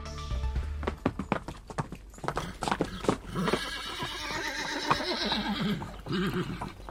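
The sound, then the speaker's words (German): A horse whinnies loudly, its neigh rising and trembling, while hooves clip-clop in a steady rhythm over a hard surface throughout, with no voices present. “Im Schwerpunkt dieser Ausgabe steht das Pferd.”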